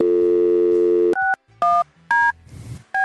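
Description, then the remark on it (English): A steady phone dial tone, then a few clear keypad beeps spaced apart as a number is dialed for an outgoing call. Fairly loud, with no voices. “Well, let's call him again and see if he's okay.”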